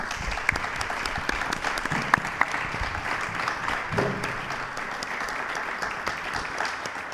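Sustained applause from an audience, a dense, steady clatter of many hands clapping at an even loudness for several seconds, with a few sharper claps standing out and no one speaking.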